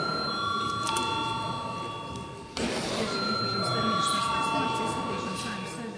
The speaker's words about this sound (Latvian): Saskaņā ar kārtības rūlī mums ir vispirms jābalso par tālāko priekšlikumu, tātad lūdzu zvanu.